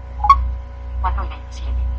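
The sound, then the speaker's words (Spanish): An iPhone unlock sound: one short, bright electronic beep with a clear pitch, followed shortly after by brief murmured speech over a steady low hum. “Vamos a desbloquear el iPhone.”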